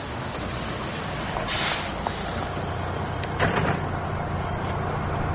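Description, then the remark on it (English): A bus door slides open and shut with two brief hissing, clattering bursts over a steady low engine rumble. No one speaks. “Mind the door.”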